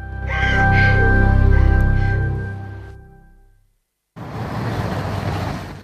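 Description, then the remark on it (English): A black minivan rumbles up outside a large modern building and slows, its engine droning before fading out. After a brief silence, a steady wash of outdoor street noise takes over. “A black minivan pulls up outside a large modern building,”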